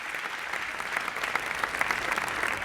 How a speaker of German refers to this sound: Applaus für unseren Nummernbengel Banks. Warmes Willkommen.